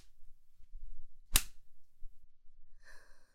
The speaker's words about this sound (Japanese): やっぱこれだわ。自分で握って振るうムチの感覚、ゾクゾクしちゃう。